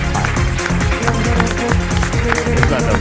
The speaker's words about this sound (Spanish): ¡Bravo, bravo! Un aplauso.